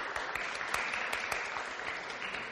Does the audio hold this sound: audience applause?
yes